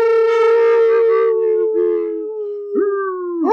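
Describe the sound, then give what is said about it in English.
Human voices imitate a wolf howl: one long, loud, steady wavering note that slowly fades, then two shorter howls that swoop upward in pitch. “If the Mad Lib wasn't acceptable, how all present do their best awoo or howl for the listeners?”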